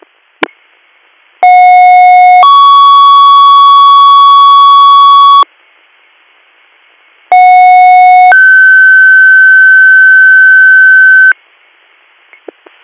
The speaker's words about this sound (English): Harford County, Mickey 33. We're going to be tied up for a few minutes. Can you hit third, do tones for a medic, please?